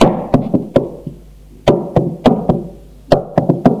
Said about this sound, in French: On a frappé à la porte.